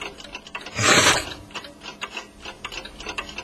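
A rasping mechanical burst gives way to a run of quick, dry clicks as an American clock's mechanism ratchets while being wound, with no voices.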